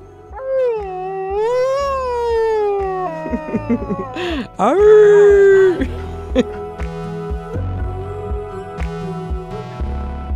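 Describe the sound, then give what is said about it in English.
A wolfdog named Bandit, mostly dog, strains at a howl, his voice wavering, breaking and sliding in pitch while other howls from his pack overlap around him, loud, with low thumping underneath. “All the dogs join in, but there's one, Bandit, that can't quite get a howl going. He's mostly dog, and not all dogs can make that noise.”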